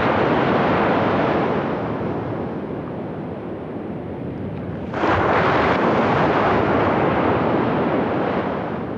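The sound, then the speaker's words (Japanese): Pacific Ocean waves roll onto Arahama Fukanuma Beach near Sendai with a steady, full-bodied roar, swelling into a louder surge of breaking surf about halfway through. No voices, just the continuous wash of the sea. “太平洋の波は変わらず荘厳な音を奏でていました。”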